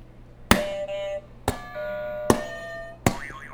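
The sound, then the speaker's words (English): A game show buzzer is pressed four times, each press a sharp strike followed by a bright, bell-like ringing tone. The final press ends in a wavering, warbling pitch. No one speaks. “Can you go ahead and hit the buzzer for me?”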